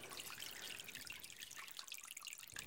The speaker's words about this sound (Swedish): Men nu är jag på onkologisk rehabilitering på Vida-kliniken. Och när jag kom in genom dörren här då hörde jag inte och såg inte det här lilla vattenfallet. Men sen nu, när jag har varit här i 2 veckor, nu hör jag det.